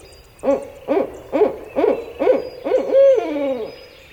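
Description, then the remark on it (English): A barred owl hoots loudly, a run of six or seven rhythmic, evenly spaced calls ending in a longer, drawn-out descending note, with no voices present. “A barred owl hoots mightily as an alligator slithers by.”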